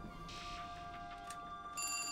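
A telephone rings: a bright, buzzing bell tone swells in loudly near the end after a steady tonal hum and a few short hissy bursts, with no voices.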